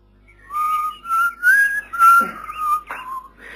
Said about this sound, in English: Well, I was walking down the road whistling to myself, you know, thinking what a bitter cold night it was